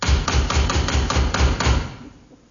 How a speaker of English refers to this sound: It might be her, mightn't it? Yeah. Sounds like her knock.